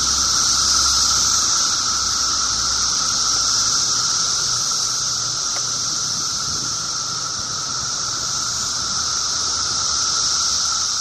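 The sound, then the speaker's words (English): A dense chorus of periodical cicadas, which spent 17 years underground and are emerging in parts of the Northeast, Midwest and Southern U.S., drones without pause, a loud, high, shimmering buzz with a steady lower whine beneath it, holding constant for the whole stretch with no voices. “The volume of these many, many, many, many, many cicadas is one of the things that, depending on where you are in our area, you will be hearing soon, they say.”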